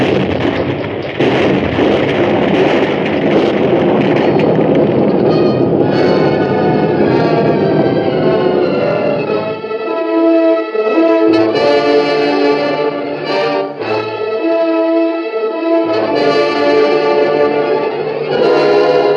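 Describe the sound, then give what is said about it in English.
A big explosion roars up loud, a dense rumbling blast that lasts several seconds before fading into sustained, ringing tones with echo. “Sure made a big explosion.”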